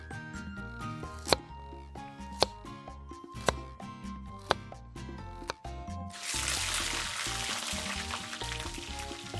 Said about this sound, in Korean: 그래 어디 좋아. 내 종이장처럼 얇게 썰어주마 내가.